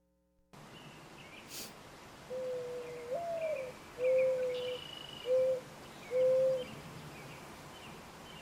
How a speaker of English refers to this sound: Oh, they have such squeaky wings. It's like, beep, beep, beep, beep, beep, beep, beep, beep, and off they go. In fact, why don't we take a look at a mourning dove cooing and flying?